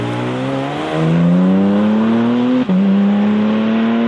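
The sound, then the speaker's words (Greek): A high-revving naturally aspirated GT3 engine in a Spider RS sports car screams loudly, its pitch climbing steadily through the gears with a brief break near the end before pulling hard again. No voices. “Έχουμε για παράδειγμα Spider RS, το οποίο έχει GT3 κινητήρα, ατμόσφαιρα, αυτό.”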